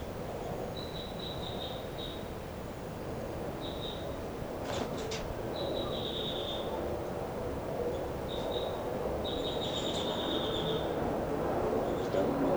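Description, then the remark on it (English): A bird, labeled 5'9", flying around a cell, gives short bursts of high, thin, rapid trilling calls, repeated about six times with pauses between, over a steady low background hiss, with a few sharp clicks partway through. “This is the calls of 5'9" as he flies around the cell.”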